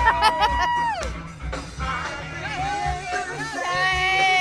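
A drive-in concert crowd at a county fairgrounds about an hour and 20 minutes from Santa Monica, watching a band from their cars and fold-up chairs in pickup truck beds at Concerts in Your Car, cheers and whoops, with several high rising and falling shouts and whistles over a steady murmur of voices, lively and fairly loud throughout.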